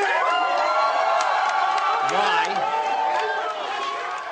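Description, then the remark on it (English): A crowd of Muslim students in a packed auditorium repeatedly shouts down an ambassador giving a speech, many raised voices overlapping into a loud, continuous din with sharp yells cutting through for the whole stretch. “In a video of the speech posted on YouTube, the ambassador, speaking to a packed auditorium, is repeatedly shouted down by Muslim students.”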